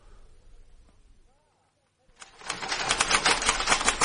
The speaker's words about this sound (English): Is that one of the new typewriters?